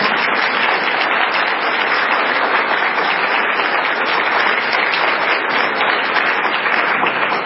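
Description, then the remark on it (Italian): Steady audience applause, a dense wash of many hands clapping at an even, loud level throughout, with no pauses and no voices standing out. “Le ringrazio anche perché se questa giornata è a titolo gratuito lo dobbiamo a loro perché l'hanno fatto proprio per amicizia, perché mi hanno detto i tuoi ospiti sono nostri ospiti, quindi io penso che meritino anche un applauso.”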